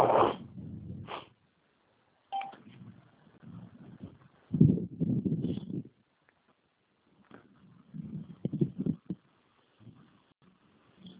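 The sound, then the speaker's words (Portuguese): A dog barks in several bursts over a muffled, phone-quality line, with short gaps between the outbursts and no one speaking. “Eu tenho que matar esse cachorro, velho.”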